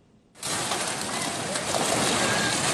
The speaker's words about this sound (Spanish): Es la fuerza del agua tumbando esta vivienda a orillas del río Perene en el departamento peruano de Junín. Las intensas lluvias han provocado el desbordamiento del río que afecta ya a miles de familias a lo largo de toda la provincia de Chanchamayo